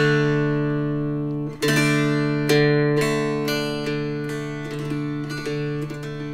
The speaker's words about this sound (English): That's the drone. It reminds me of bagpipes, hurdy-gurdies. Right. There's something ancient and profound about that sound. It just pulls you in, I think.